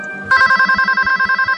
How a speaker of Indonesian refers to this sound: telepon berbunyi kembali. Kali ini aku agak sedikit kesal. Aku mendiamkan telepon itu.